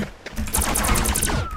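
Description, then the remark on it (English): Rapid-fire video game gunfire, fired by pressing both control keys: a quick, even run of about ten sharp, crackly shots lasting roughly a second, with a thin high tone sliding downward as the volley ends. No voices. “Also, another cool thing you can do is you can just use both control keys so you can fire really fast.”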